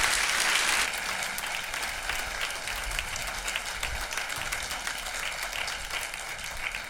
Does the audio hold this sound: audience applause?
yes